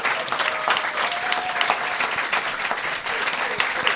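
Steady, dense applause from an audience for the show's producer, many hands clapping at once in a loud continuous wash for several seconds, with no one speaking over it.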